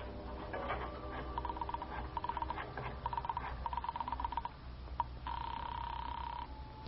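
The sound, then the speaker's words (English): A telephone in a hall in use: several quick bursts of mechanical dialing clicks, followed by a steady electronic tone on the line for about a second and a half. Fairly clear, with no talking. “I got up, went to the phone I'd seen in the hall.”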